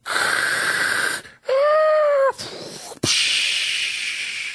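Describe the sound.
A person imitates a tsunami with their mouth as part of a sound effects box set: loud rushing hiss, a brief wheezy whistling tone in the middle, then a sharp burst into a long roaring whoosh that slowly fades.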